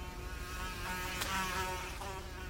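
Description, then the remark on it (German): A housefly buzzes for a couple of seconds while being chased, a steady droning whine that wavers a little in pitch, with no voices present. “Eine Fliege jagen.”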